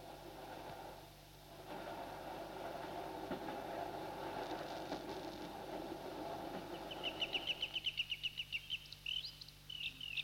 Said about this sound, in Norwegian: Og togene på Dovrebanen synes ikke å forstyrre urinnvånerne.